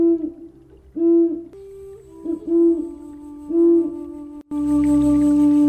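An owl hoots several times in a steady, repeated pattern, the calls clear, ending in a longer, louder sustained note over a rougher, noisier background.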